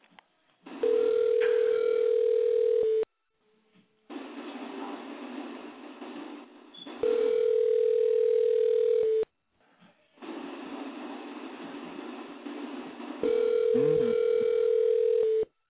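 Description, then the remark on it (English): A phone line rings out on an outgoing call: three long, steady mid-pitched ringback tones over a hissy line, each separated by a short pause, with no one answering. “Hold on, let's see if she answers her phone.”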